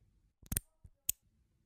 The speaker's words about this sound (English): the sound of that lock clicking shut.